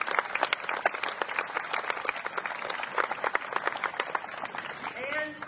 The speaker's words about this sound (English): The wonderful Norma Santiago of El Dorado County and Jennifer Montgomery of Placer County. Stand up and give them a round of applause, please.